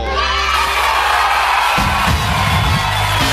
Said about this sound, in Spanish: ¡Aplauso!